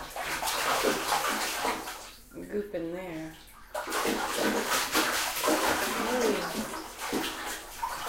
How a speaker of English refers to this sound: So I'm just washing water on him? Mm-hmm. That's how you wash smart, huh? Do you splash water on him? Well, also just kind of gently with the water soak over him. Gotta get under the neck.